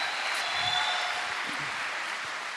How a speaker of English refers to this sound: Okay, let's give them a round of applause as we just thank you and honor you.